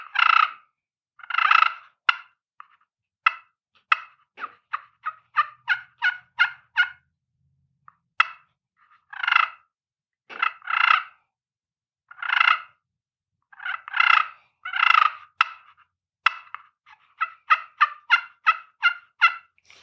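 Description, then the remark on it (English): Turkey calling made on a crystal friction call, imitating turkeys milling around in the woods: a run of yelps and sharp clucks mixed with soft rolling purrs, fairly loud, in uneven bursts with short pauses and no talking. “I'll do a mix of some purrs and some of the yelping and clucks and stuff that they do when they're milling around in the woods doing their soft stuff.”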